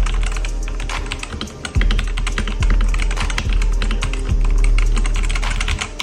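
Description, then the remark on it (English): Rapid, continuous clacking of keys on a Mad 60 HE mechanical gaming keyboard, fairly loud, with a steady typing rhythm and occasional heavier thuds from larger keys, no voices. “Here is a quick sound test.”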